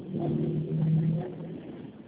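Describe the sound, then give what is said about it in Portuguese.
A steady, muffled low rumble of car traffic heard from inside a moving vehicle, with a faint engine hum running continuously through the short stretch and no one talking. “estou no trânsito, não está dando para compreender.”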